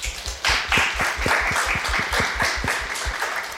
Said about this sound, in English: Clap it up.